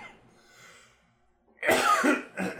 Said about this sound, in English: Just coughing into the void.